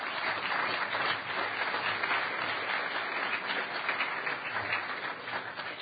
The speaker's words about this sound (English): And, of course, we have to give a round of applause to the security staff